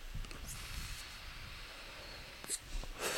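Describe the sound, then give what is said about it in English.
Soft, breathy drawing and puffing of someone inhaling from a vape and exhaling, with airy hisses rising a few times over a low rumbling background. No one speaks. “if I hit the vape less, it's nice.”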